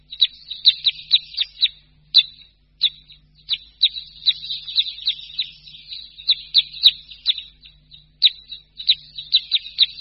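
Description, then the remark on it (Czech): A flock of common crossbills gives sharp, repeated contact calls, overlapping chips coming in quick bursts throughout, clear, with a faint low hum in the background. “Vábení je pak v takovém hejnku významným prostředkem komunikace mezi ptáky.”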